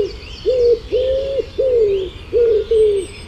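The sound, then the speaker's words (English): A wood pigeon coos in a steady, rhythmic run of five soft, hollow notes, while other birds chirp faintly in the background. “my Dawn Chorus bird impression is the wood pigeon.”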